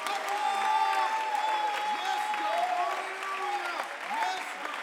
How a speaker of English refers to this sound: Somebody clap your hands in this house. Alguien dar un aplauso.